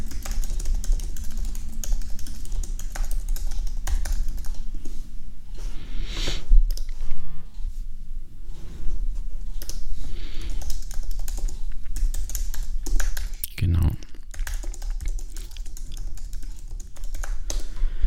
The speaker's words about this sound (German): Ja, ich habe gerade auf der Tastatur getippt.